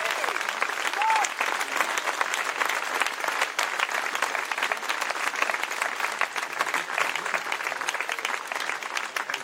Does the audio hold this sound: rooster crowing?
no